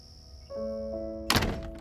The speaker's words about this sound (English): "What's your secret?" Vera whispered after Elsie shut and locked the door.